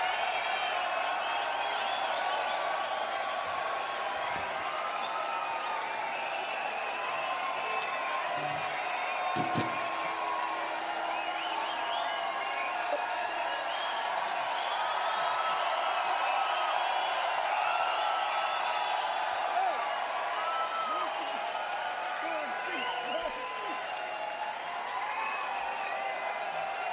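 A crowd yells and claps in a steady, dense roar for nearly half a minute, many voices shouting over one another with scattered applause and no single voice standing out.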